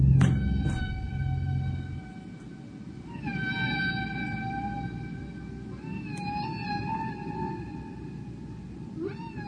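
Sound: whale vocalizing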